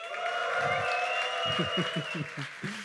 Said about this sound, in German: Deswegen hast du ja auch den langweiligen Favoriten, dass du hier nochmal schön den langweiligen Applaus holen kannst.